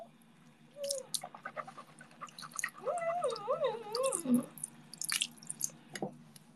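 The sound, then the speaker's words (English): Wet swishing and gurgling of mouthwash in a mouth, with a warbling gargle in the middle, followed by a couple of sharp spits near the end. “Okay, I was using mouthwash.”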